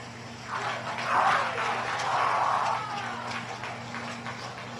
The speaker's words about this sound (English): You can hear people clapping. Why they're clapping, I have no idea. Like, that's, he just started the dangerous part.